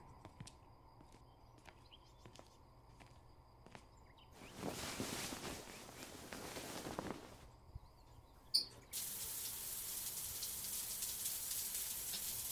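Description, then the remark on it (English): A soft burst of rustling noise, then a shower starts running with a steady, bright hiss of spraying water that continues to the end. No one speaks. “You act like you've never took a shower with other people before.”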